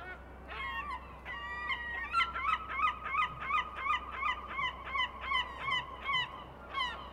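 A European herring gull on a beach gives a long run of loud, harsh, yelping calls in a quick steady rhythm over a constant low rumble of wind or surf.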